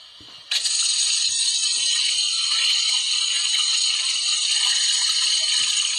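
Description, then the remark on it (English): A toilet flush kicks in abruptly after a brief quiet moment, becoming a loud, steady hiss of rushing water that continues unbroken to the end. No one speaks. “The toilet flushing.”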